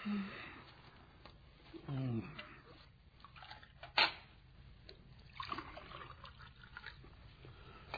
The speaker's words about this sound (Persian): خانم یه لیوان آب میریزه واسه ما.